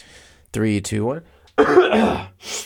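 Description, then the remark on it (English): A voiced throat-clearing "ahem" followed moments later by a harsher, raspy clearing cough, both loud and isolated with no speech around them, made just before going live on a microphone. “Even if I, you know what's funny is, like, even if I don't have to cough, whenever I am about to do anything on a microphone, whenever I am about to, like, press record on this podcast, or whenever I'm about to, you know, make a video”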